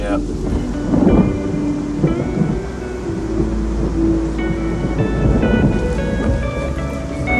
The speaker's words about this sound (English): It's got the rain, huh?